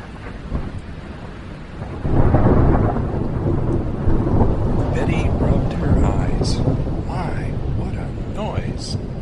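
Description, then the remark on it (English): A thunderstorm: steady rain hisses throughout, then a loud, deep roll of thunder breaks in after a couple of seconds and keeps rumbling heavily to the end. “Thunder seemed to be shaking the whole world, and during the vivid flashes of lightning, she could see the trees swaying and bending before the wind.”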